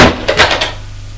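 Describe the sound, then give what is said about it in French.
A governess shuts a door as she leaves, a solid thump followed by a few quick rattling clicks of the latch before it fades into a low hum. “Et elle les quitte en fermant la porte.”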